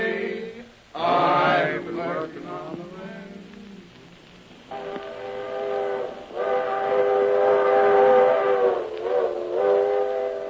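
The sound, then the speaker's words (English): A small locomotive works in a congested railroad yard, sounding several loud, sustained whistle blasts in a row over a low mechanical rumble, with no voices. “Congestion on every track, and only one tiny locomotive to do the work.”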